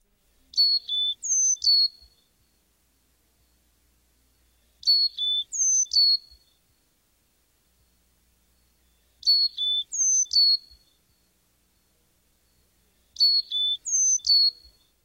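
A Carolina chickadee sings its clear, whistled four-note song, sounding like 'phoebe, phoebe', repeated four times at steady intervals of about four seconds, with the pure high tones alternating in pitch against a quiet background.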